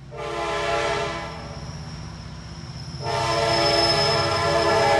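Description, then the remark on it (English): A freight train runs through the center of a town, rumbling loudly while its horn blares in long sustained blasts, briefly easing before sounding again. No one speaks. “Railroad buffs travel here to see the freight trains run through the center of town.”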